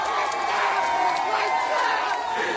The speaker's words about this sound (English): when she does, everyone just gets up, and all you hear is a "Let's go!"